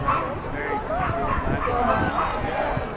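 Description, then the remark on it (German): Several dogs bark and yip over a steady murmur of people talking, the barking frequent and overlapping, at a neighborhood school event combining dogs and kids. “Das hat was mit Hunden zu tun.”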